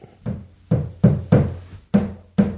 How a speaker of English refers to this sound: Are you serious? Maybe he's hammering something.